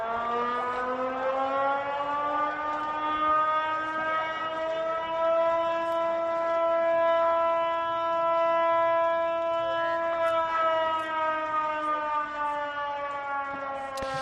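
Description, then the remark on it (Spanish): An acqua alta flood warning siren in Venice, Italy, sounds one long, steady electronic wail that swells slightly in pitch, then eases back down, sustaining unbroken with no voices. It warns that the tide is rising high and there is a risk of flooding. “Claro, esto que estás escuchando son las sirenas que alertan de lo que en Venecia se conoce como acqua alta.”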